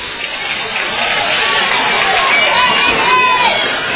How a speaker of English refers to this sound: You hear the crowd start to chant defense.